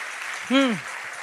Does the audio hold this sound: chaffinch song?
no